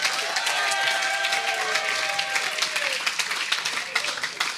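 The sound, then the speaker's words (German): A crowd applauds in celebration of the Bible passage Philippians 3:8 before it is read aloud. Dense, rapid clapping, joined by a few cheers and whistles early on, then thinning toward the end. “Und die will ich vorlesen und vorher will ich mal einen fetten Applaus von allen, die die Bibel feiern, für Philipper 3, Vers 8.”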